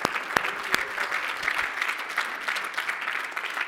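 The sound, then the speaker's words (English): An audience gives a clap offering to the Lord Jesus Christ, clapping together in a steady, dense wash of applause, many hands blending into a continuous patter with a few sharper individual claps standing out, holding an even level throughout. “So let's give it up for the Lord Jesus Christ, the clap offering.”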